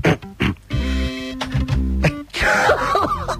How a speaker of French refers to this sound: Bon, je vais éternuer, vous allez voir ce qui se passe, c'est assez troublant.